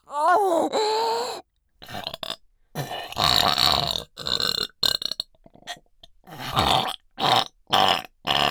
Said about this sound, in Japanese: バズレ女のドアクメゲップ爆弾、喉奥からぶち込む。ゲップかいて喉まんこがいく。